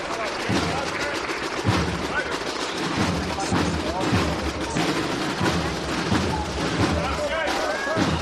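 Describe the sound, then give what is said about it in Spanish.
Dense, sustained clapping from a large crowd during a religious procession as the carried image pauses, loud and continuous throughout, with sharp louder claps popping out and scattered voices and cheers mixed into the applause. “Parece que está pidiendo marchas entre aplausos y los sones del ….”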